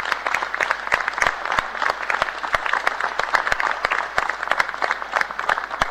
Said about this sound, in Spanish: es el primer jefe de gobierno elegido en primera vuelta en la Ciudad de Buenos Aires, así que un aplauso para Horacio.